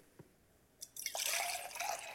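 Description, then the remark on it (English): After a brief quiet moment with a small drip and a tap, liquid starts pouring steadily, a bright, splashy stream that continues to the end; it is the second of two pours in a test of telling hot from cold liquid by sound. No one speaks. “Well, here's pour number two.”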